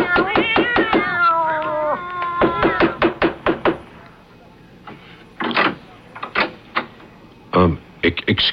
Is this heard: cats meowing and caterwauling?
yes